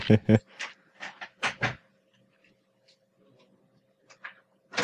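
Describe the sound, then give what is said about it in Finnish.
A door opens with a few sharp clunks and rattles, followed by a quiet stretch with a low steady hum and a couple of brief faint knocks near the end. “No niin, ovi aukas.”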